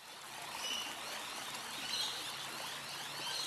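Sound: flowing river water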